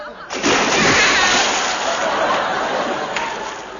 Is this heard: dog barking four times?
no